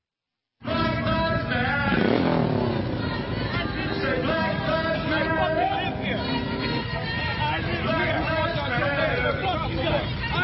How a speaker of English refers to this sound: It's white virtue signalers with black people on motorcycles. A motorcycle gang stops your car, bows up.